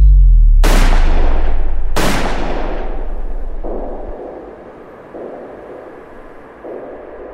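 Two sharp, loud gunshots ring out at close range about a second apart, each with a sudden full-range crack and a long fading tail, followed by quieter rumbling ambience: a gunman firing two shots from behind at Olof and Lisbeth Palme at 23:21.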